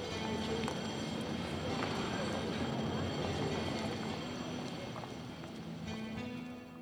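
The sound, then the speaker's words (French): A train rumbles steadily past at a station, loud, with a constant clattering roar and faint metallic whine that eases off slightly near the end. “Il va à la gare et il regarde les trains.”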